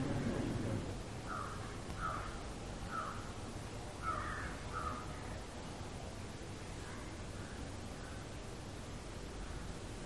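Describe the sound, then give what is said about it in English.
Crows caw repeatedly, a handful of harsh calls spaced irregularly over a steady background hiss, with fainter calls trailing off later. “Do you think the crows are doing it for some purpose?”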